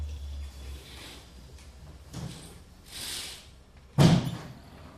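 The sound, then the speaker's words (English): A door or window is opened with a few soft scraping and shifting noises, then one sharp, solid thud as it moves. There is no talking. It happens during a gathering of Hare Krishna devotees. “If we open a door or window, is it too noisy?”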